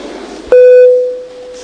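A parliamentary voting bell rings before a vote on proposal 4 from the No Sirds Latvijai faction: a single loud electronic tone sounds abruptly, steady and mid-pitched with bright harmonics, holding for about half a second before fading into a long quieter sustain over a soft background murmur.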